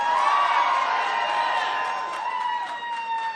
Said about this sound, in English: Hold your applause.